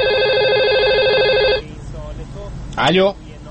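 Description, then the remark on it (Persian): A phone rings with a steady electronic tone for about a second and a half at a busy barbershop, a call from the barber's wife, loud and alone, then cuts off; a brief voice follows. “ببخشید من این تلفن جواب بدم.”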